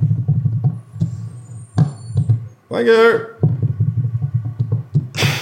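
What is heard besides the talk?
dump truck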